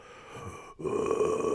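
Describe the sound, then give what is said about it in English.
A loud, rasping drunken snore imitated by a voice, starting after a brief pause and rumbling on in a single sustained, throaty groan with no talking. “That's just me snoring when I'm drunk, innit?”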